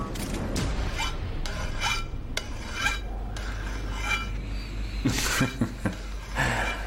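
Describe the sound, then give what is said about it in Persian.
Metal blade being filed thin: repeated harsh scraping strokes at an uneven pace, bright and gritty, with a quick burst of several strokes near the end over a low steady hum, no talking. “تیغه رو خیلی داری باریک میکنی.”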